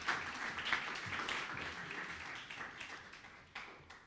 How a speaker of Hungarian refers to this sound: egy tapsot kérnénk neki.